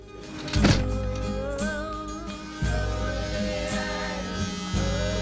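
A vibrator drones with a steady, low electric buzzing throughout, starting with a soft thunk, then surging louder twice as the motor's pitch and intensity shift, with faint wavering tones above it.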